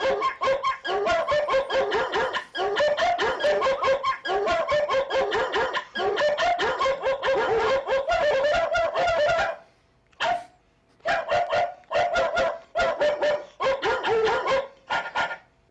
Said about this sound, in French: C'est des vrais chiens. Des vrais chiens